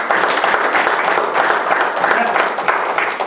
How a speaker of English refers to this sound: Give Mark a round of applause for that.